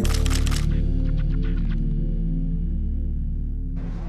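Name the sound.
camera shutter click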